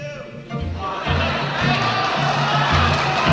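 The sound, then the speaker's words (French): A large concert audience bursts into loud, sustained applause and cheering after a singer holds a note on the word "bye"; it swells after a moment into a dense roar, with low musical tones continuing underneath. “Et sur ce goodbye, le mot bye, elle arrive à chanter cette note et il y a un tonnerre d'applaudissements comme j'en ai jamais entendu.”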